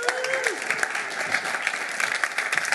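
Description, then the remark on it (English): A crowd claps steadily in dense, sustained applause, loud, with a brief whistle near the start and no talk over it. “So first group of people, could you give a huge round of applause, ladies and gentlemen”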